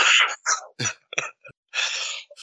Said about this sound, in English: It's weird when I cough.